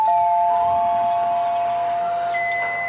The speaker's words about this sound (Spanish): La familia Otero estaba en la cocina cuando sonó el timbre de la casa.